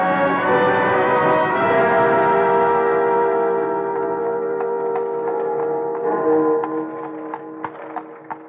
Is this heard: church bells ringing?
yes